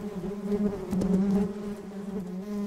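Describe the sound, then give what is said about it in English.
A steady buzzing of bees hums throughout, a low droning tone with a brief swell in the middle, with no voices present. “Mrs. Tittlemouse decided to leave the bees till after dinner.”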